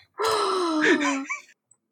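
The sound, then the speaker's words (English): A dramatic voiced gasp, loud and drawn out for over a second, with a high, slightly wavering pitch that trails off at the end. No other talk. “Gasp!”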